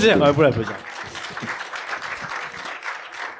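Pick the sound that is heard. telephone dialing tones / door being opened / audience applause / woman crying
audience applause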